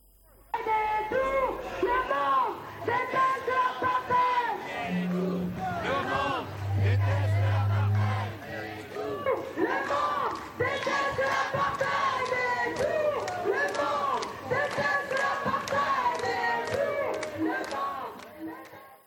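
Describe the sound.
A large crowd of protesters chants slogans in loud, rhythmic unison at a rally, voices rising and falling in repeated bursts with a steady roar of shouting throughout.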